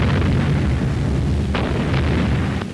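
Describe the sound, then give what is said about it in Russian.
Heavy artillery fire on the fascists in Voronezh during the Second World War, with a constant deep rumbling roar, broken by several sharp explosive cracks in the last second and a half. Loud throughout, with no voices. “По фашистам огонь!”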